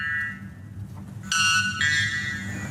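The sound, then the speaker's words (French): A white bellbird, which lives in the Amazon, giving its mating call: a faint tonal note, then a sudden, very loud, harsh metallic blast that shifts pitch midway, like an alarm, over a steady low rumble. “Je vous présente l'Araponga blanc.”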